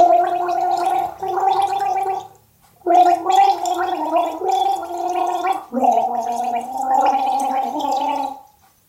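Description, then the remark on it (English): Someone hums a melody while gargling water for a guess-the-tune game, producing a bubbly, wavering tone that moves through several sustained notes in phrases, with a brief pause for breath partway through. “See if you get it without the gargle.”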